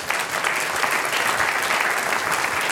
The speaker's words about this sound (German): Das ist ein Applaus wert, hätte ich gesagt.